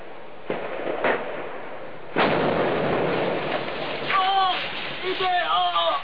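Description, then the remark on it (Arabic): Heavy booming blasts from a tank firing directly at the person filming: two quicker thumps, then a loud, rumbling shot that rolls on, followed by raised, shouting voices over the lingering noise. The roof then fell on the cameraman, who was killed. “وهو آخر مقطع صوره هذا الشهيد للدبابة وهي تطلق النار مباشرة عليه، فوقع السقف عليه واستشهد.”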